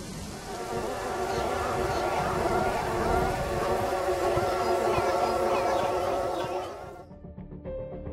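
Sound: swarm of mosquitoes buzzing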